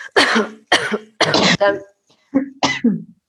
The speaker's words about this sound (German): und dann drehen wir uns nochmal zur Seite und husten oder schauen fast über die Schulter und husten jetzt noch dreimal in die Faust, was sich dann da verändert.